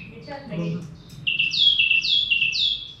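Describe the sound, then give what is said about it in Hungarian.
A song thrush sings bright, repeated high phrases in clear bursts, repeating each motif two or three times, with a low voice-like murmur briefly underneath at the start; softer clicking calls of blackcaps sit in the background. “ismételgeti a strófát, illetve a motivumot, most két háromszor, ugye, akkor arról felismerhető, hogy ez az énekes rigó. És hát ő is szokott utánozni. Hát úgy csettek. Hát több madár is csettek a háttérben.”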